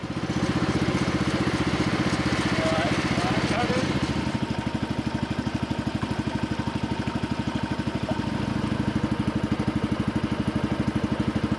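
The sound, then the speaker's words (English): A Canal and River Trust dredging boat's engine idles on a canal, a steady, rapid low chugging that runs without pause for the whole stretch, dipping slightly in loudness partway through. “This Canal and River Trust dredging boat, who were just as interested in Nessie as I was in them.”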